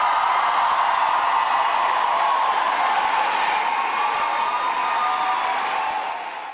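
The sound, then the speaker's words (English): A large crowd cheers and roars continuously at a rally for Vice President Harris in La Crosse, Wisconsin, a dense, loud wash of voices and applause that holds steady for several seconds before starting to fade at the end. “Crowd really getting into it last night.”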